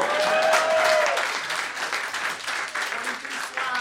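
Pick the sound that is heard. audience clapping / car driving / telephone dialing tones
audience clapping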